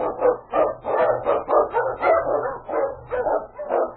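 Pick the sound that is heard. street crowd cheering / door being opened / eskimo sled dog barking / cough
eskimo sled dog barking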